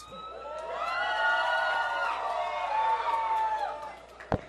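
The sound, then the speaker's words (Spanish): A crowd of mostly young voices applauds, cheers and shouts together in a loud, sustained burst lasting several seconds, fading out before a single sharp knock near the end. “Otro fuerte aplauso.”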